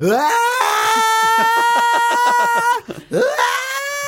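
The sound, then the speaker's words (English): A person imitates a rock singer's scream: a loud, strained sustained wail with a wavering, pulsing tone, breaking off briefly before a second rising scream. “Oh, I really wish I could have nailed that scream because that made it sound like I was making fun of him.”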